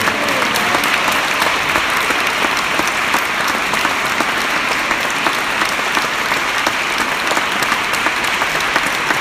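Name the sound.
applause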